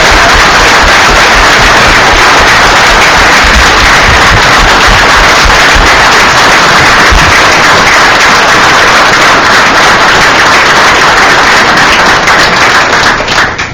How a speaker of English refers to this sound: So why don't we give a collective round of applause for all the volunteers.